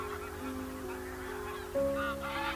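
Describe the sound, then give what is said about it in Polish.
A flock of several hundred geese honks continuously, many overlapping calls blending into a dense chorus that swells louder partway through as more birds arrive in skeins. “I zlatują kolejne, kluczami. Natomiast ciekawe jest to, że ptaków jest kilkaset”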